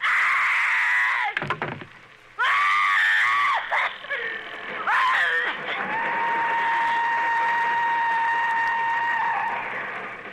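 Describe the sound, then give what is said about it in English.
A loud, piercing scream from Agnes Moorehead, pitched to match the whistle of a passing train, rises and breaks off, then blends into a long, steady whistle-like tone of the passing train that holds the same pitch before fading slightly. “And she worked it out so that her scream would be the exact pitch of the whistle of the train that was going by her home.”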